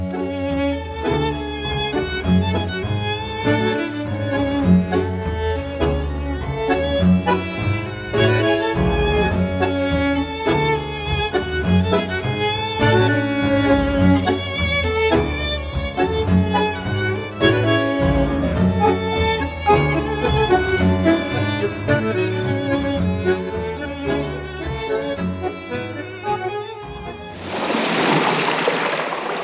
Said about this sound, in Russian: … со своим голландским ансамблем и самое, что ни на есть, настоящее танго